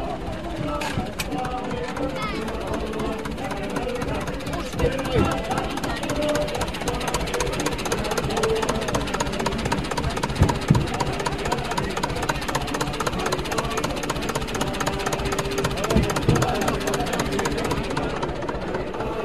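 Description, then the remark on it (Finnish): A Zetor tractor engine chugs steadily while giving children rides at a Midsummer Eve celebration in a heritage village in Virrat, Finland; its diesel knock forms a fast, even pulse that stays loud throughout, with indistinct voices mixed in beneath the rumble. “Ja siellä sitten yleisökuljetuksena oli kaksi Zetor-traktoria ja se oli lasten mieleen tuo traktorikyyti.”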